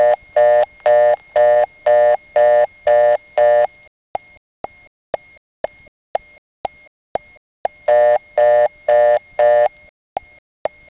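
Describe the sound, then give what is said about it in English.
A step-by-step telephone switch, the number one step in Barry, reached over a dedicated Granite 6 trunk line with a zero dialed: rhythmic buzzy tone bursts give way to a run of sharp, evenly spaced mechanical clicks, then the pulsing tone returns, loud. “That's number one step.”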